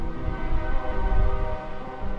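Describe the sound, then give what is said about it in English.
Freight trains rumble steadily in and out of a riverside steel mill in Clareton, heavy low-end clatter with sustained horn-like tones ringing over it, loud and continuous with no voices. “And in Clareton, you can walk up to Peters Creek Cemetery and look down at the river and the sprawling steel mill that's still in operation, though scaled way back, and you can hear and see the trains coming in and leaving the plant.”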